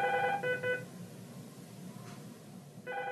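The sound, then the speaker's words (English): An electronic telephone rings in short trilling bursts somewhere inside the Housing Authority's West Calumet office, a quick double burst, a pause, then another ring starting, heard nearby over a low indoor hum with no talking. “I waited near a phone ringing somewhere inside the office.”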